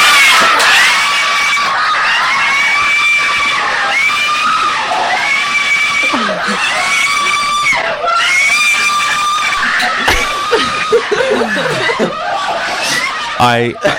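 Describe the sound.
Four Filipino men sitting on a bed scream and shriek excitedly, high-pitched and sustained, with bursts of laughter and overlapping voices throughout, as they watch the Miss Universe result when Miss Philippines wins.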